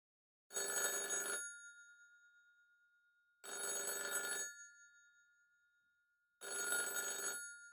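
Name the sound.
telephone bell ringing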